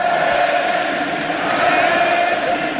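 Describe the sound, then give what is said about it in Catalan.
A packed stadium crowd at Camp Nou chants Messi's name in unison during the Clàssic against Real Madrid, a loud, steady wall of voices with a sustained roar underneath that never lets up across the few seconds. “Crits de Messi, Messi a la graderia.”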